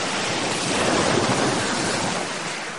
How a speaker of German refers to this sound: Schwarzgrau empfing ihn die See. Das Wasser gluckste und blubberte von unten hoch und stank auch ganz faul. Unheimlich.